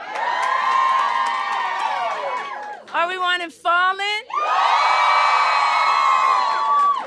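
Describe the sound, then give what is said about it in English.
A loud audience screams and cheers to vote in a sustained roar, breaks off briefly while a single voice speaks, then erupts again into another long wave of shrieking cheers. “I actually had people scream for it.”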